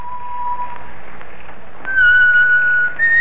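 A man whistles a few sustained notes as he rides along at a leisurely pace in the evening, returning home to Leicester, starting faint and then growing louder and clearer, with the pitch stepping up near the end. No one speaks.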